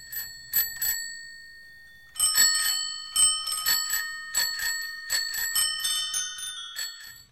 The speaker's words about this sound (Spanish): Y ahí está, con los timbres de las bicicletas que ya nos están diciendo vámonos, nos estamos yendo.